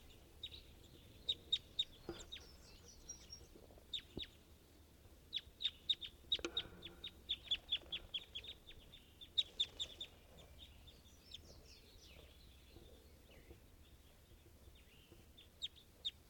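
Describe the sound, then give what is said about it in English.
Several birds, juveniles and adult males, give sharp, high chirping calls in quick irregular bursts as they move off, busiest early on, then thinning to a few scattered calls near the end as one last bird leaves. No one speaks. “Still one bird here. There it goes.”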